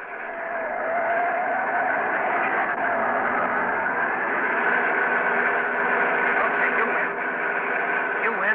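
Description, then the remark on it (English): A car engine roars at high speed as the speedometer needle climbs from 70 to 85, a steady, loud, continuous drone that holds for the full stretch with no voices over it and a slightly muffled, narrow tone. “It's a car!”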